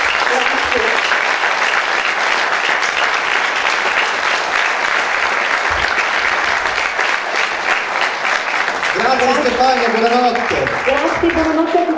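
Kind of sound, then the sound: crowd, audience applause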